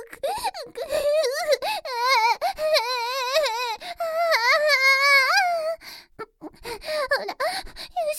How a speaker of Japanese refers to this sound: あれ、どうしてんですか。なんで泣いてるんですか。泣くのは私の仕事ですよ。